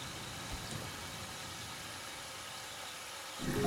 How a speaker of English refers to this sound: Soon after, she stops at a red light at a downtown intersection and stares at a cluster of green water towers across the street, as if in a trance. The light turns green and her car idles at the intersection.